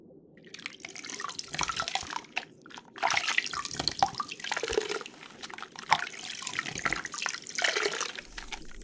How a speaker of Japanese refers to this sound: では、洗い流していきますね。